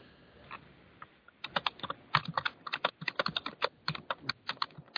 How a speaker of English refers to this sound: Sounds like someone's typing away.